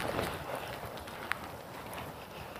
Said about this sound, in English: I hear it pitter-pattering on my hood, which you can believe is up today, even though it makes me hunch over. I don't know if you can hear it on the microphone, but I can certainly hear it.